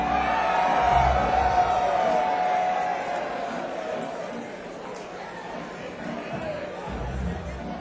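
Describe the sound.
A live crowd recorded for an album cheers and murmurs, with a shrill whistle or whoop piercing through in the first few seconds before the noise settles into a steady, slightly softer roar of voices.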